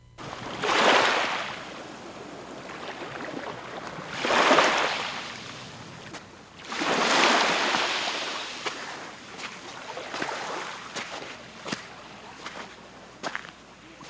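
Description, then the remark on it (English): Small waves wash gently onto the beach at Fort Kamehameha, near an airport's reef runway, in three soft, broad swells, each rising and fading, with a low steady rumble and faint scattered clicks in between. “This stretch of beach at Fort Kamehameha is just a stone's throw from the airport's reef runway, so it's a strange mix of gentle waves lapping, airplane noise, and bird calls off in the distance.”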